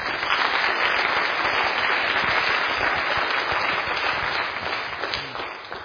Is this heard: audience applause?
yes